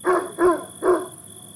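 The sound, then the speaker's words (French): In the evening, a Great Dane in Hampstead answers another dog's barking with three quick barks in a short burst, sounding somewhat far off, with a steady faint high hum underneath and no voices. “Jusqu'à ce qu'il obtienne enfin une réponse.”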